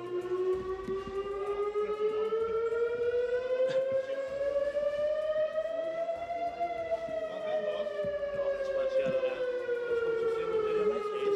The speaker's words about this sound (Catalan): quan passaven un parell de minuts de les 11, aquí, som al carrer Major de Constantí, hem pogut sentir les sirenes que sonaven molt a prop d'aquí, a les que estan just al campanar de l'església. Si us sembla, podem escoltar com sonaven.